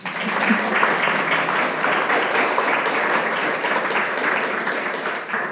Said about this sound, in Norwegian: Så jeg foreslår vi starter med å gi statsråden en varm applaus.